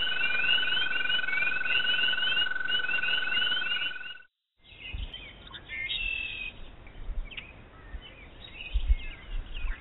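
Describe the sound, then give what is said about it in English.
A dense chorus of mating calls of wood frogs, spring peepers and American toads: a steady, unbroken high trill under rapid repeated chirps. After a brief silence, scattered calls resume with occasional low thumps. “The first three sounds were mating calls of the wood frog, spring peeper, and American toad.”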